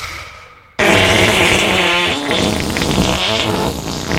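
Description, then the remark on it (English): A loud, sustained raspberry blown with the lips imitates a fart, buzzing and sputtering for about three seconds with wavering pitch after a brief quiet start. “I can make the most incredible fart sound ever.”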